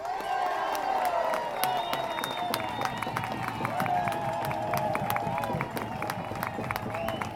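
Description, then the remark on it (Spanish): A large crowd applauds steadily, with dense, sharp claps running throughout, mixed with cheering and shouting voices, loud for several seconds without letting up. “Fuerte el aplauso para nuestro gran amigo, gran luchador”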